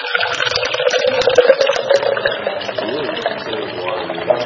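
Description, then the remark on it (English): Water with food coloring is poured steadily into a cup for a few seconds, a continuous splashing gurgle at a fairly even loudness. “And I fill up his cup.”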